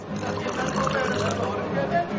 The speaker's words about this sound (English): The barman nods and goes to pour the ingredients into a cocktail shaker.